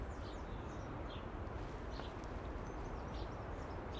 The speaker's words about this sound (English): I can hear the wee sparrows, the wee spelks over to my left. Love those little characters.